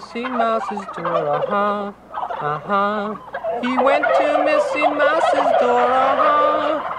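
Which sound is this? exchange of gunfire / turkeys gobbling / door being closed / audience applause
turkeys gobbling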